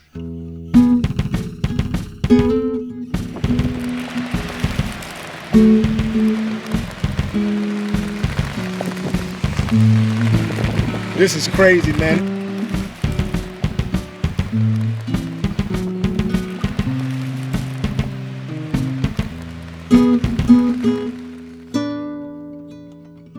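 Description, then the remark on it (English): Steady rain pours down outside, after three days of continuous rain, with a constant hiss and scattered patter of drops, while a man's voice speaks briefly and low tones hum beneath the downpour. “That the rain is consistently coming down.”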